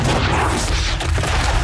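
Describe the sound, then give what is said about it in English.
Heavy cannon fire booms, loud and continuous, with the blasts blurring into a thick rumbling roar and one sharper crack standing out midway. “They'll find their range soon, sir.”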